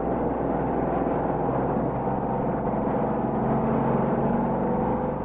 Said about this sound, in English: this is what it looks like, doing about 165 miles an hour in one of these $15,000 automobiles